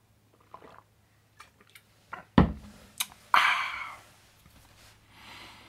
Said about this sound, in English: Excuse me while I have a sip.